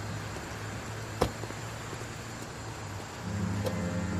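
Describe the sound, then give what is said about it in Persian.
Two police cars approach from a distance, engines humming low and steady and swelling slightly louder near the end as they draw closer, with one sharp click partway through and no voices. “دو تا ماشین پلیس از دور نزدیک میشن.”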